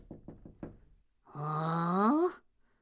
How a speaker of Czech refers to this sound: když v tom někdo zaklepal na dveře.